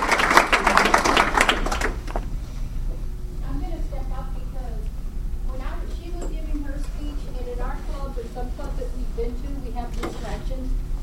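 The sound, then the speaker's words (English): A short burst of audience clapping for two presenters at a training session on the art of evaluation, dense and fairly loud, fades out after about two seconds. A person then talks over a steady low hum. “I'm just going to ask everybody to give them a hand right now.”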